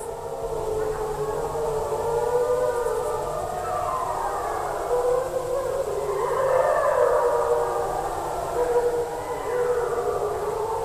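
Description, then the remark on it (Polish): Wolves in the Białowieża Forest in the 1990s howl together in a harmonic warning chorus, answering a person's howl; several long overlapping wails slide up and down in pitch, holding a steady, fairly loud level throughout with no talking. “To było takie typowe dla wilków, harmoniczne wycie odstraszające.”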